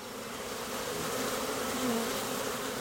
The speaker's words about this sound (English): Walking through a small backyard near San Francisco's Castro District, you come upon a strange sight. A thick line of bees visible in the air.